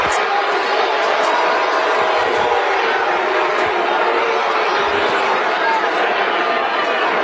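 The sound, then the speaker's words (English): A huge Arkansas football stadium crowd roars continuously after a replay, a dense, loud wash of cheering and shouting that stays steady for several seconds without letting up. “I'm not sure the Arkansas crowd is roaring after the replay.”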